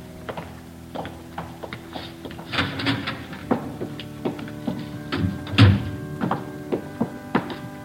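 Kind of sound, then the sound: household object, door opening and closing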